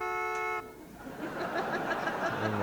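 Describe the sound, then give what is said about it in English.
A loud, reedy bagpipe chord honks once for about half a second, like a car horn, then cuts off into a soft, noisy background murmur. “You can also get chords, or car horns.”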